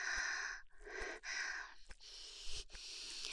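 A woman's heavy panting with a handful of long, breathy inhales and exhales in an uneven rhythm, each separated by a brief catch. No speech, just loud breathing.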